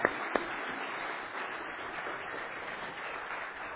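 children clapping

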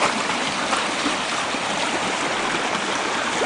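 creek water flowing

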